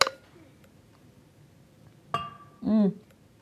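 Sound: glasses clinking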